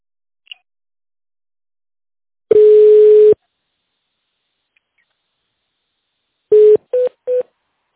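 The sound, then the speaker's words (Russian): Touch-tone telephone dialing of an employee's extension number in tone mode: one long steady beep, a pause, then three quick tones in succession, each a clean mid-pitched electronic note on a quiet line. “Если вы знаете внутренний номер сотрудника, наберите его в тональном режиме или дождитесь ответа оператора.”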